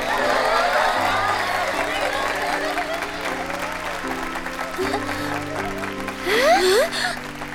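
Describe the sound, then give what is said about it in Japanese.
An audience claps steadily for several seconds, a dense wash of applause with crowd noise and a few rising cheers near the end, over a low sustained musical tone. “美しい姉妹愛を見せてくれたシマ子とノリコに盛大な拍手を。”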